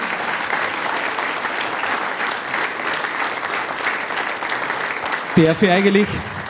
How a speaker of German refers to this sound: Das ist euer Applaus.